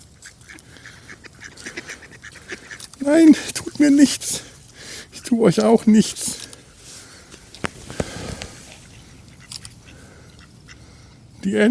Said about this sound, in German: Und ich, mein Gott, da kommen Enten auf mich zu. Hier kommen, das ist unheimlich. Das ist wirklich unheimlich. Das ist, ich muss ein Foto davon machen. Ich werde bedroht. Ich fühle mich bedroht. Kommen Enten.